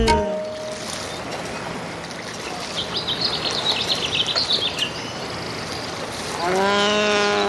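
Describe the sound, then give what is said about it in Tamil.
Birds chirp and trill in a brief bright burst mid-way, over a steady rushing wash, with sustained tonal sounds at the start and swelling again near the end. “பறவை குரலில் பாட்டொலியும் கேட்குது பாரு”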